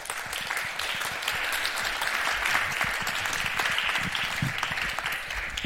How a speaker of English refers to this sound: And so please welcome him with a big round of applause.